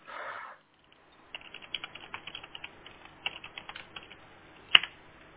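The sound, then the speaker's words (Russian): A cable on a Xiaomi 4 router is pulled out and plugged back in: a brief rustle, a run of small plastic clicks and fumbling, then one sharp, louder snap as the connector seats. No one speaks. “Сейчас я переткну его еще раз.”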